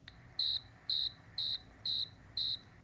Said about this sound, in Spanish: Era una noche oscura, los grillos sonaban.